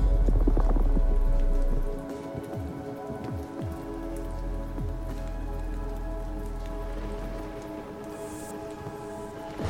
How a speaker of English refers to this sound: There is rain and thunder here as well.